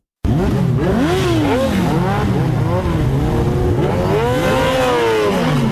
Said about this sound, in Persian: صدای اگزاز موتورسایکل های عاشقان سرعت در ولایت هرات است. گروهی از موتورسایکل سواران سنگین وزن با سرعت بیش از 200 کیلومتر در ساعت شارهای هرات را در روزهای تمرین می پیمایند.